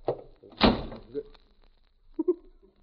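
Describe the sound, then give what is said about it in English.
A tent door swings shut with one loud, sharp thud and a short rattling decay, framed by faint muffled sounds before and after. “A door on a tent.”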